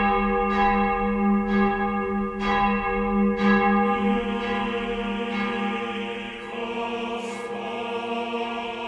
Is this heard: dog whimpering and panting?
no